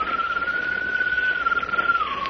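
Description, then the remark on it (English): A bird-like whistled call: one long, steady mid-high note held for about two seconds that slides slightly downward at the end, heard alone over a faint hiss. “Sounds like a bird. That's what it was. A bird's call.”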